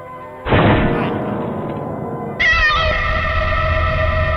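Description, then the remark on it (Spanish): A transgenic cat in a video game meows loudly as a piano kills it: one strained cry, then a second longer, sustained yowl that carries to the end. There is no talking, only a low rumbling behind it. “¡El piano ha matado al gato transgénico!”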